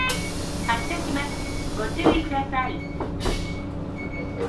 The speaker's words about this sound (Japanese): ご乗車ありがとうございます。市川の駅経由大町駅です。 発車します。ご注意ください。